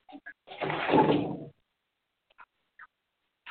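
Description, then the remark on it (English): A door swings or slides shut with a second-long broad rush of noise, followed by a few small, sharp clicks as its lock is turned, with no talking. “Lock the door.”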